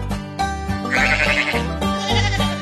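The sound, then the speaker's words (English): Two wavering, nasal billy goat bleats sound loud one after the other, over a steady low tonal backing, with no one speaking. “There were once three billy goats who lived in a meadow at the foot of a mountain, and their last name was Gruff.”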